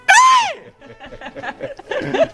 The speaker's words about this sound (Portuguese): E qual é o seu grito de guerra? É o grito de guerra.